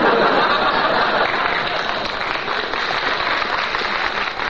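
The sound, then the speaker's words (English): Sustained applause from gathered relatives during an on-air broadcast, a dense steady wash of many hands clapping at once, loud, with no pauses and no voices standing out. “I'd like to thank my relatives who gathered here to applaud tonight.”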